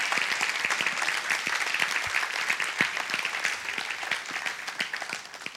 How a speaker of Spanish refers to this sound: Dale un fuerte aplauso a Jesús de Nazaret.